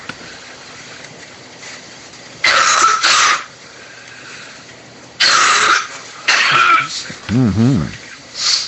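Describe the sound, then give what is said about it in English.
An elderly woman, a grandmother, coughs in several harsh bursts, a quick double cough followed by two more separate coughs, ending with a strained, wheezy vocal sound over faint background noise. “What was that? Oh, coughing grandma.”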